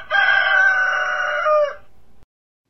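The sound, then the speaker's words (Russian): A neighbor's sleepy rooster, having flown up onto a fence flapping its wings, crows once, loud, a long hoarse, raspy cock-a-doodle-doo lasting well over a second before cutting off into quiet. “На забор, захлопав крыльями, взлетел соседский заспанный петух и хрипло пропел свое.”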